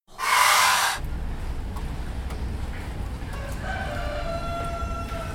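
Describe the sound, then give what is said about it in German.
Two roosters crow at 8:30 in the morning in a quiet alley, over a steady low background rumble: a loud, harsh call right at the start, then a longer, drawn-out crow that rises and sustains toward the end. No one speaks. “Irgendwo unterhalten sich zwei Hähne.”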